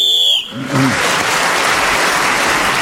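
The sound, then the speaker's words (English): A short, shrill whistle blast, blown to end a round of a panel game while Clement Freud is speaking, sounds for about half a second, then gives way at once to loud, steady applause from an audience that continues to the end. “So Clement Freud was again speaking as the whistle went, gained that extra point.”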